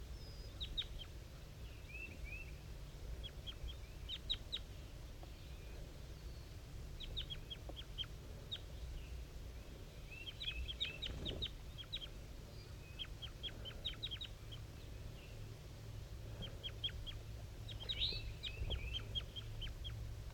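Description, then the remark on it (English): Soft, faint bird calls: short, high-pitched chirps in quick clusters, repeating on and off over a steady low rumble of background noise, with no voices; a wild bird and bird 5-3 communicating at 7:50 a.m., up in the top of a dead pine, the wild bird giving very weak, soft calls. “Very weak, soft calls coming from the wild bird.”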